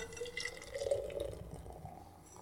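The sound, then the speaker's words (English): A freshly opened 5.7% ABV beer pours steadily into a glass for a couple of seconds, a continuous gurgling, fizzy stream with a faintly rising tone as it fills. No one speaks. “Here we go, to the pour.”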